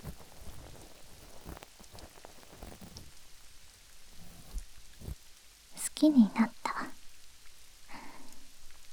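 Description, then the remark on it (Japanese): Steady rain patters throughout in a soft, continuous hiss with scattered drop taps, while a voice speaks briefly and quietly over it near the end. “私は水の音が好き。”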